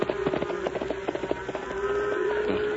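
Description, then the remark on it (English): Horse hooves clip-clop in a quick, steady rhythm as a horse goes up a hill at night, moderately loud, easing off partway through while a thin, steady buzzing tone hums underneath. No one speaks. “Come on, horse. Up the hill. Come on, boy. Steady now.”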